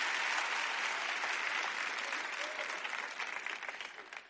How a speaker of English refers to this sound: Give them a clap there. Thank you. You can go back.